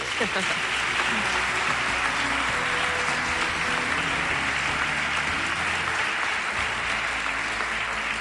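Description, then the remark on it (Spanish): Sustained audience applause on a stage in Granada for the president of the Diputación de Granada, Francisco Rodríguez, and the city's mayor, Marifran Carazo: a dense, steady wash of clapping hands that stays loud and even for the whole stretch, with faint voices murmuring underneath. “Y aquí en este escenario estamos Jorge Bustos y dos invitados de categoría, don Francisco Rodríguez, presidente de la Diputación de Granada, y la alcaldesa de la ciudad, Marifran Carazo, para los que pido un aplauso enloquecido.”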